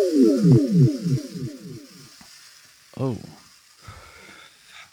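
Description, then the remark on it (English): A sci-fi teleporter beam-in effect as the animator Meat Canyon is beamed onto the show: a fast string of falling, warbling electronic tones over a sizzling hiss that fades within two seconds, then one more downward sweep and a brief spoken voice. “Let's beam Hunter in here.”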